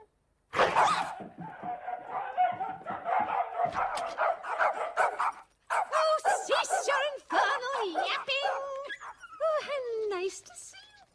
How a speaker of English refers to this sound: Dogs bark and jump up at the window of the door.